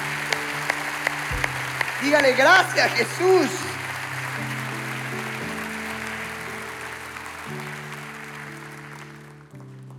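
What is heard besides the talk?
audience applause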